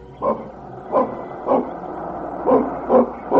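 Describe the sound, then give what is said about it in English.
A dog named Vicky barks about six times in irregular succession, each bark short and moderately loud, with a faint background hum between barks and no talking. “Vicky, here now, you stop that barking.”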